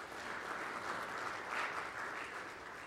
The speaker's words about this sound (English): We raised $1,629 for the Midwest Honor Flight. Give yourselves a round of applause for that one.